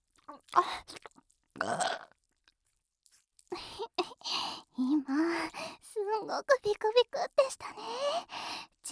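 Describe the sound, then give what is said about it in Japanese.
Two short burps in the first two seconds, followed after a brief pause by a woman talking softly and continuously. “シコシコミニベロゲップはさすがに効きすぎたかな。”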